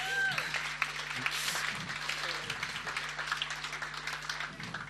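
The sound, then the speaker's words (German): Steady applause from an audience of about 130 to 140 people for two people who stood up, a dense wash of many hands clapping at an even level, with a few voices and brief whistles mixed in. “Applaus für die zwei.”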